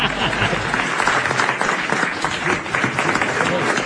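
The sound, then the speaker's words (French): Sustained audience applause during a 21 October 1982 dialogue between Béranger and Villers, a dense, steady wash of many hands clapping at once with a crackly texture, holding at a fairly loud, even level throughout. “Arrêtez d'applaudir bêtement.”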